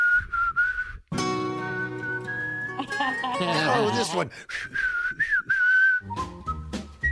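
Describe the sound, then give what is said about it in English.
A person whistles a short, wavering song melody in clear phrases for Google Assistant to identify, broken up by a louder bleating vocal passage in the middle, with brief speech near the end. “So now you could besides humming or singing, you could even whistle.”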